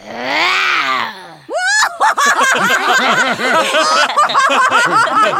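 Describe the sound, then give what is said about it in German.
A voice imitates a lion's roar: a loud, strained, raspy growl held for over a second, then a rising squeal and a long run of rapid, pulsing, cackling vocal bursts. “Das klang ja wie ein Löwe mit Schnupfen.”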